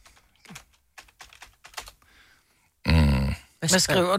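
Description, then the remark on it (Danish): Irregular bursts of sharp computer keyboard clicks tapping away for a couple of seconds, then a loud voice cuts in and takes over. “Hvad skriver du?”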